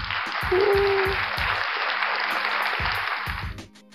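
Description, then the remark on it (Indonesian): A crowd claps steadily in a dense, continuous wash of applause, with brief cheering tones mixed in, before the clapping thins out and fades near the end. “Itu tadi tepuk tangannya settingan ya?”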